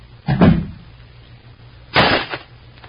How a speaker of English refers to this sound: And Claudia Vincent picks up a vase of flowers and crashes it to the floor in her rage over the turn of events.